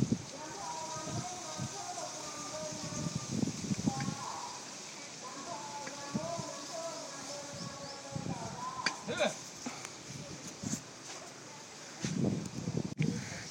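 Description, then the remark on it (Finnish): A babbling brook, heard during an elephant safari ride, gives a steady, rushing hiss throughout, with occasional low thumps and rustles, and a muffled voice murmuring intermittently beneath the water noise. “Tästä kuuluu myös joku puron ääni.”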